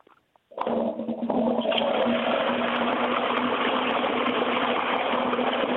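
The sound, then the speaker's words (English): An old toilet flushes with a sudden loud rush of water after a brief click, then keeps roaring steadily with a gurgling hiss and a faint low hum underneath. “Modern loos lack the drama of what you're about to hear, so are you ready?”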